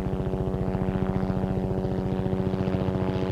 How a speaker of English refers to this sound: The Red Bull helicopter buzzed above,